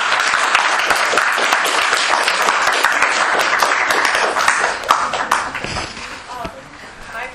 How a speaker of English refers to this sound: Let's give it a round of applause.